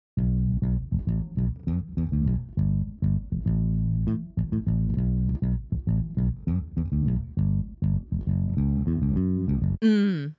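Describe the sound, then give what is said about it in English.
A funky bass guitar line plays alone, with punchy popped notes and quick slides in a busy syncopated rhythm, loud and steady, ending in a brief burst of noise. “Here is our funky bass.”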